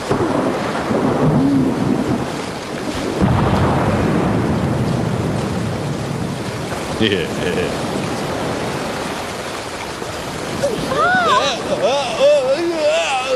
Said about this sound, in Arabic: العاصفة تزداد قوة.